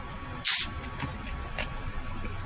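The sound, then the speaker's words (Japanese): The cap of a carbonated drink bottle is twisted open with one short, sharp burst of carbonation hiss, followed by faint fizzing that fades over the next couple of seconds. Fairly loud, with no talking. “か開いた、今。蓋開いたね、なんか炭酸の。”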